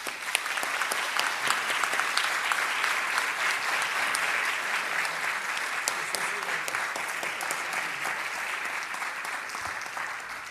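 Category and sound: crowd, audience applause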